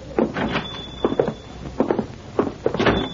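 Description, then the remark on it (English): A door being opened: a series of wooden clunks and rattling knocks in an uneven rhythm, with a thin high squeak running underneath. No one speaks. “Maybe better we leave the door open so Pancho can get out of here in a hurry if the Senora go for the shotgun again.”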